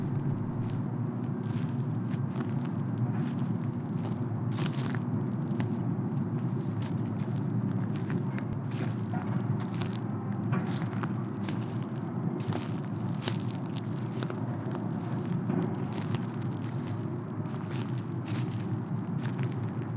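Footsteps crunch over brittle snail shells covering the ground, a steady run of sharp, gritty cracks, layered over a constant low rumble of heavy machinery moving across the water.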